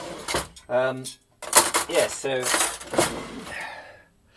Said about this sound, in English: Hang on a minute, can't get the drawer shut. We had mashed potato yesterday, and I can't seem to get the masher to sit in the drawer.